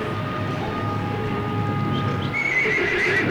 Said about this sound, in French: Les chevaux sont de plus en plus instables dans le torrent. Les chevaux tombent.